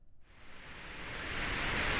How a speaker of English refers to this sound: Or do you like to fall asleep to music, perhaps the soothing sounds of white noise?